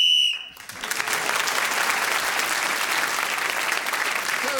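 A short, shrill whistle blast is blown to end the round, sounding for about half a second, then loud, sustained applause from an audience immediately takes over and continues to the end.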